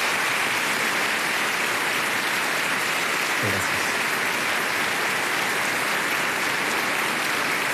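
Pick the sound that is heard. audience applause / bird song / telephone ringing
audience applause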